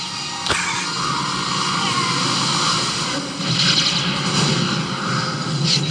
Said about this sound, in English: Yay, fireworks.